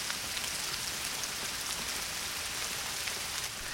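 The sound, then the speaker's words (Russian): Steady rain pattering on a surface, a dense, even hiss of countless drops that holds constant throughout, moderately loud, with no voices. “Дождик, дождик, пуще, дам тебе я гуще, дам и ложку, хлебай понемножку.”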